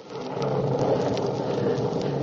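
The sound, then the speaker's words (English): Thunder rumbles low and steady through a storm, a continuous deep roll mixed with a hiss like falling rain, fairly loud and unbroken, with no voices. “And God of the storm hath answered.”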